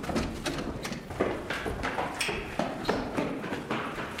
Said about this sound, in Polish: Zburzymy spokój i szybki bieg na drugie piętro i z powrotem. Lecimy!